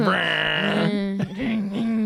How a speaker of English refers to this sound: My stomach. just growling really loud. I hope you can hear that. Can you hear it? Awesome. Yay. It's revving up in there.